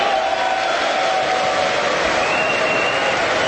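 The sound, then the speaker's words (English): Steady, dense applause from Republicans in a large audience, a loud continuous wash of clapping with faint cheering mixed in, holding at an even level throughout. “That's Republicans clapping.”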